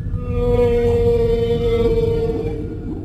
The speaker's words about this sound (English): Oh my. Is that a whale up there?